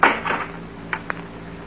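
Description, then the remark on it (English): The front door of a house opening: a scraping thump and rattle at the start, then two sharp, quick latch-like clicks, with no voices. “Someone coming in the front door.”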